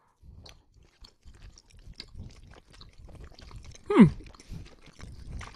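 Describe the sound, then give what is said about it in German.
Someone bites heartily into food and chews: wet chewing with repeated crunchy bites and mouth noises, steady at first, then one louder crackling bite around the middle before the chewing carries on. “Ihr müsst da schon mal herzhaft reinbeißen.”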